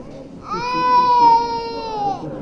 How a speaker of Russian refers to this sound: Чего ты плачешь?